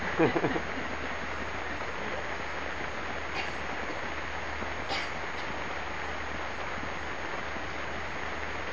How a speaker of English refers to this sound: Can you still hear me back there? Okay. I mean, actually you don't need to hear me. The rain is much more, has got a lot more to say than I have.